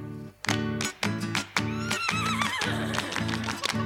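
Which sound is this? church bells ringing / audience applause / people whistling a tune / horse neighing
horse neighing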